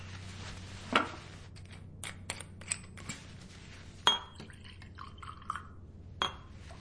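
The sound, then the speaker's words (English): Scotch is poured into a glass over a low background hum, with a few sharp glassy clinks and a brief gurgling trickle of liquid, fairly quiet, with no talking. “I've got some scotch somewhere.”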